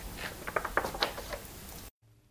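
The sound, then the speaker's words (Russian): Soft papery rustling with a few crisp crackles as a museum director carefully turns the heavy pages of a leather-bound manuscript containing Rusalka's aria, on a table at the Czech Museum of Music in Prague, lasting under two seconds before cutting to near silence; no voices. “Директор музея осторожно переворачивает ее страницы.”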